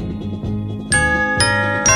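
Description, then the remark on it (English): Bright Christmas bells ring out in a steady pattern, three clear chiming strikes with long shimmering overtones over a low sustained musical backing, fairly loud. “Christmas bells, those Christmas bells”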